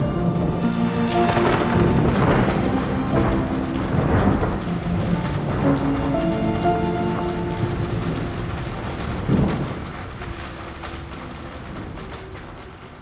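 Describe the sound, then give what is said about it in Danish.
A thunderstorm at night: steady rain hisses throughout while low rolling thunder rumbles in broad swells, with a sharper crack near the end before the storm fades to a softer patter of rain. No voices are heard. “Og jeg ligger bare og kigger ud på det her tordenvejr og lytter til det”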